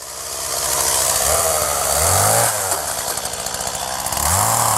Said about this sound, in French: Déjà, on bosse avec un outil qui est quand même hyper puissant. Une tronçonneuse, c'est quand même 26 mètres secondes, la chaîne. Donc déjà, ça, on la manipule. C'est presque le prolongement de la main.